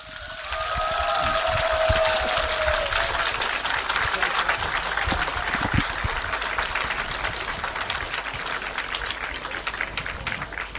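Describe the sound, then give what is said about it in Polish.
A crowd applauds steadily for about ten seconds, a dense, even patter of many hands clapping, with a faint tonal whistle or ringing briefly audible at the start. “Byśmy się wszyscy trzymali za ręce, a radiosłuchaczom chcemy posłać serdeczne oklaski.”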